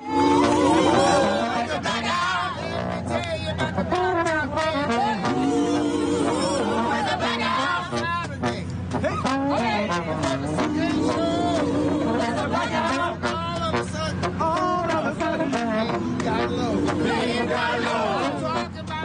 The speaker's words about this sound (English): You're going to hear the legendary and Tony-winning Andre DeShields improvising with the trombone lick that opens a Hadestown as this crowd of people are just standing out on the street.